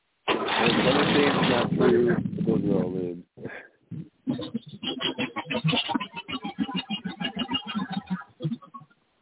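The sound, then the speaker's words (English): The small gasoline engine of a Troy-Bilt machine roars loudly as it is started, cranks and catches right away, cuts briefly, then settles into a rough, rapid chugging with steady rhythmic pulses. “It's my Troy bill. Started her up? Yep. Right off the bat.”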